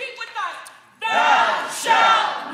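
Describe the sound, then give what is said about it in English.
A crowd of adults, all with a hand on a staff, bang it while shouting and chanting "Thou shalt not pass" together in a loud, sustained burst of voices, starting abruptly after a quieter opening second with a single voice. “And they've got their hand on the staff. They're banging it. Thou shalt not pass.”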